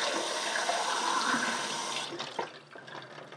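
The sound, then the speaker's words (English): Water rushes steadily into a large glass for about two seconds, a broad hissing pour, then breaks into gurgling splashes and drips as it is tipped out and fades. “I want to show you what happens when you fill it up with water and empty it, because it just makes a great noise”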